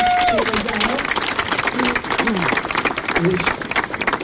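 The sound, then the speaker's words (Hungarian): An audience applauds a woman who took part in the speaker's first plunge into the Tisza, breaking into steady, dense applause that fills the whole stretch at an even, fairly loud level, with a few voices calling out over the clapping. “A legelső csobbanáson mindössze 10 fülöttek velem, köztük egy hölgyel, aki szintén itt van valahol, a tapsoljuk meg,”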